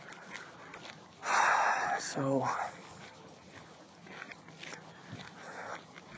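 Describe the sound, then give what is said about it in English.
Street dogs snuffle and chew, eating vomit on the street, with a loud burst of sniffing and gnawing in the middle and a brief whiny tone, while a person talks quietly underneath. “These dogs are eating just the nastiest stuff.”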